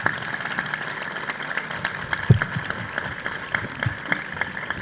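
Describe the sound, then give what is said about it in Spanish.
An audience applauds the staff of a training establishment, dense overlapping claps forming a continuous rattling wash at moderate volume, with a few sharper individual claps standing out and no one speaking. “Y quiero pedirle un aplauso para ellos realmente porque se lo merecen.”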